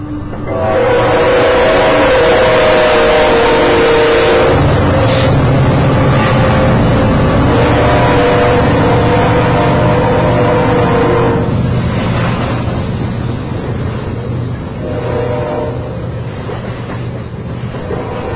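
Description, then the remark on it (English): A long, slow-moving BNSF freight train with two locomotives pulling coal cars rolls past, a loud, steady rumble with continuous clanking and rattling of heavy cars that fades slightly toward the end. No one speaks. “It's a slow-moving train. It's taking a while.”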